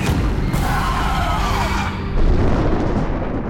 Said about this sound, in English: Before he could go on, the booming crash of thunder filled the air.